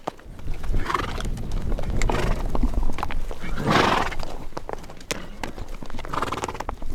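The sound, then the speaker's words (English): Horses on a horseback tour in Wyoming snort in several breathy bursts while hooves clip-clop steadily underneath in a walking rhythm, with no talking, as the riders summit a hill looking at the Tetons. “We're looking at the Tetons as our horses snort.”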